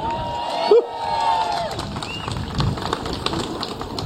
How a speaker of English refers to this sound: Wow, fast hands. That deserves a round of applause.